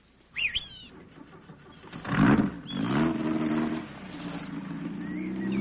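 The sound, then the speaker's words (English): A car engine cranks and catches with a loud burst, then settles into a steady rising hum as the vehicle pulls away, with faint bird chirps in the background. “You have a car we could use?”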